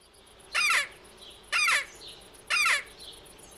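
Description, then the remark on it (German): Three loud, harsh, high-pitched squealing cries at a steady rhythm, each about a quarter second long, blown on a hare squeaker (Hasenquäke), a hunter's lure call that imitates a hare's distress scream to draw foxes, especially in winter, with no talking. “Quäke, auch Hasenklage oder Fuchsreise, Instrument zum Nachahmen des Angstschreis des Hasen.”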